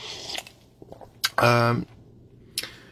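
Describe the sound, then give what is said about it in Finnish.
Sips of hot coffee: a few short slurping mouth noises, then a louder slurp with a brief voiced hum, and one more quick sip near the end. “Se kylmenee loppua kohti ja nyt toinen hörppäys vielä, koska mä oon ihan vauhdissa täällä.”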